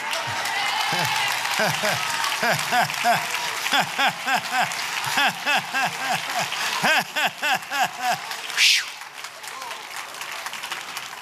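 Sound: clapping applause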